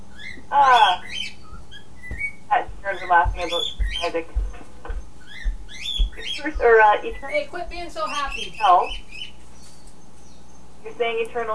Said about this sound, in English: The bird got noisy at this end.